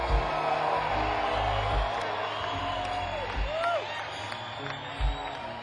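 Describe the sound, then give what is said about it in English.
An audience applauds in a steady, dense wash of clapping, mixed with crowd cheering and a few rising whistles and whoops, holding at an even level throughout. “applause, ladies and gentlemen.”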